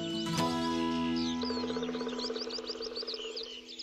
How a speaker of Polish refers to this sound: Słychać. Słychać, bo za horyzontem, za tym młodnikiem sosnowym na pewno to jest skowronek. Na 100%. I to nie jeden, bo stąd jednego słyszę i trochę jestem przygłuchy, ale mi się wydaje, że i z tej strony też jeden jest.